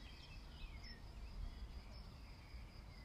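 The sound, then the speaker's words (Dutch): Birdsong drifts in outdoors under bright sunshine, a few soft chirps and sweeping calls over a steady high insect-like buzz and low ambient rumble, with no one speaking. “Even een kort momentje dat je de vogels kunt horen.”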